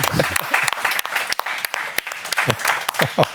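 An audience claps in a steady, dense wash of applause, sharp individual claps cutting through, while voices call out and cheer over the top for the whole stretch.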